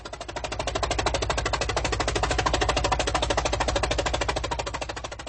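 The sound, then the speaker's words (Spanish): A tractor working in a field in spring as farmers begin their farm work, in warm, sunny weather. Its engine chugs steadily with a fast, even mechanical putter over a low, droning rumble. It stays loud and constant throughout, with no voices. “El tractor en el campo, tractor na poli, testimonia que los campesinos, zemědělci, ya han iniciado las faenas agrícolas, zemědělské práce.”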